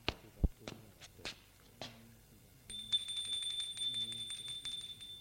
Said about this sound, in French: Il monte jusqu'au 3e. Et va sonner à la porte.